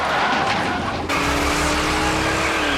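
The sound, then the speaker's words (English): Loud, continuous vehicle noise with a harsh screech of tires skidding as police officers intentionally spin out a black truck that was speeding through a residential neighborhood in Los Angeles, an abrupt shift in the roar partway through and engine rumble underneath. “The officers intentionally spin him out.”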